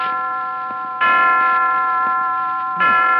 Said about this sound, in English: 5 o'clock. I didn't know the hospital had chimes.